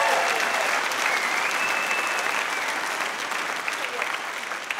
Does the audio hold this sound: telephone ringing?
no